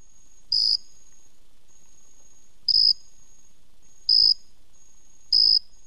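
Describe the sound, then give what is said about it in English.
A jumping bush cricket in New York City chirps alone in four loud, evenly spaced bursts over a faint, steady high-pitched trill, with no voices present. “That's a jumping bush cricket.”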